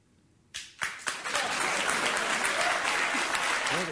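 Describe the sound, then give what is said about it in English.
Applause from an audience starts with a few scattered claps, then swells into steady, dense clapping that carries on for several seconds at moderate volume, with no voices over it. “He finally got some applause, but not much of it.”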